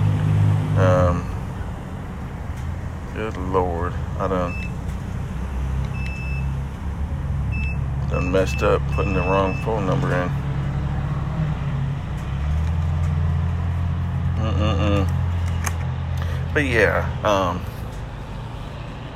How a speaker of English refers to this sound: I'm about to get gas, so you're about to just hear me getting gas. So whatever. Give me 1 second.